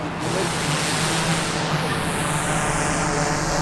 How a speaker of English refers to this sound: As the H520 drone took flight, firefighters stood by with hoses near burning barrels of lumber. … says the machine is outfitted with thermal imaging.